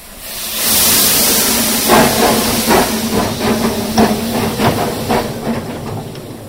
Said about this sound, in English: Time to leave the narrow gauge loco and get back to the real age of steam.